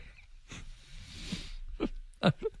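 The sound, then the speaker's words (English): Loud farting into a shallow puddle: a soft splutter, a long hissing, bubbly stretch, then three short, sharp wet blasts, the middle one loudest, with no talking. “Sounds like loud farting into a shallow puddle.”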